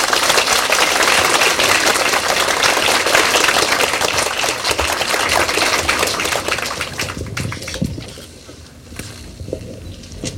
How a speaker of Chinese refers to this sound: 好，那现在我们以最热烈的掌声呢，欢迎蔡教授。